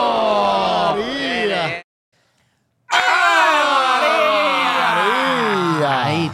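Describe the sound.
A studio audience shouts and yells together in two loud, sustained bursts, separated by about a second of silence, their overlapping voices rising and falling.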